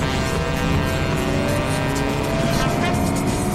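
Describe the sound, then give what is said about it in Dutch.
A bus with a driver rumbles through busy city traffic in Paris, its engine a steady, loud drone layered with the dense roar of surrounding vehicles, continuous throughout. “heeft zich met ware doodsverachting in het verkeer van Parijs gestort.”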